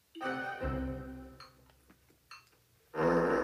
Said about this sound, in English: knock off the farting. She's sorry, Mummy. Something must have upset her tummy. I love your farts, darling.